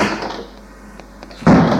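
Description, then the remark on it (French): A downstairs door in a hall, leading to the driveway, opens at night: a couple of faint latch clicks, then a sudden louder burst of sound as it swings open, with no voices. “Dans le hall, porte de l'allée qui s'ouvre.”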